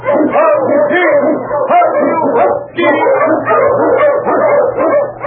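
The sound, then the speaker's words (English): Husky sled dogs, led by the Wonder Dog King, bark and yelp without pause in the Yukon, a loud, overlapping chorus of yips and whines lasting several seconds over a faint low hum. “The Wonder Dog King, swiftest and strongest of Eskimo League dogs, blazes the trail through storm and snow for Sergeant Preston as he meets the challenge of the Yukon.”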